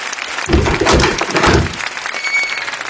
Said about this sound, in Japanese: それでは早速2人に入場していただきましょう。 皆様の後ろの扉にご注目ください。盛大な拍手でお迎えください。